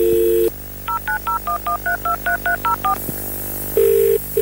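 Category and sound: signal or alarm, telephone keypad dialing tones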